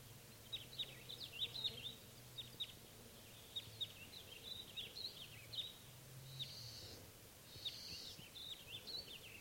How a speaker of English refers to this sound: There's some wild crossbills coming around again. And it's still June 12th.